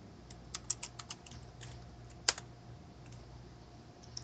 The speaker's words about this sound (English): I don't even know what I'm typing, man.